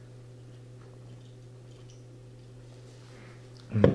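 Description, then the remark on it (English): A steady low hum fills a quiet stretch, then near the end comes a single brief, wet gulp as someone takes a swig of water. No one speaks. “I got one more that we'll briefly touch on after another swig of water here.”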